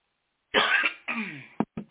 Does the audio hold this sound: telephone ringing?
no